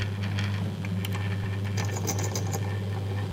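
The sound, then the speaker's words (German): A small drill runs steadily with a constant low motor hum, while faint scratchy ticks and grinding flecks come and go as the bit wears into a 2,000-year-old metal armor clasp, removing its top layer. No one speaks. “Bereits bohre ich jetzt schon, also die oberste Schicht wird schon abgetragen.”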